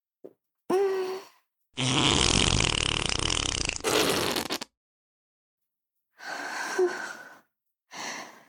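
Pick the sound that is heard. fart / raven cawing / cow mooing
fart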